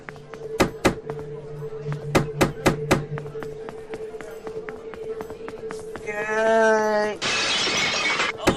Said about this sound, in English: I played the glass broken the table sound.